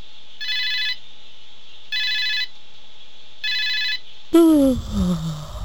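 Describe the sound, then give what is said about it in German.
A telephone rings three times in an even, repeating pattern of electronic trill bursts, then a voice abruptly breaks in after the third ring. “Schatz, geh mal ans Telefon.”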